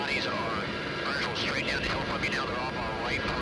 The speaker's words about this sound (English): Equipment like this Black Hawk helicopter, just one of hundreds of aircraft flying daily missions.